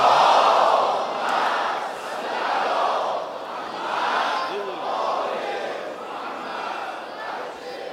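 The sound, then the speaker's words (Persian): A large crowd chants salawat loudly in unison in honor of Imam Khomeini on the eve of his birthday, the massed voices rising and falling in steady swells about every second and a half, loudest at the start. “فردا تولد امامم هست، به عشق امام خمینی صلوات بلند خواهد بلند.”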